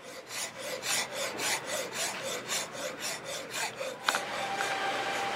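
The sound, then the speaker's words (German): A rasp files hard hornbeam wood in the model workshop of the Fagus-Werk, in steady back-and-forth strokes, about a dozen rhythmic rasping passes with a bright, gritty texture and a brief sharp click near the end. “Wenn es zu weich ist, läuft man Gefahr, dass man schnell irgendwo welche Beulen reinfeilt oder es uneben wird.”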